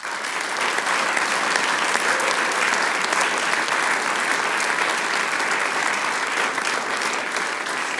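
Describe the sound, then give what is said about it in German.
Sustained applause from a sizable audience for a harmonica player who had performed two pieces for the Styrian harmonica competition, a dense, steady wash of clapping that stays loud and even throughout, with no pauses or other sounds standing out. “Applaus für den Maximilian Schweikart.”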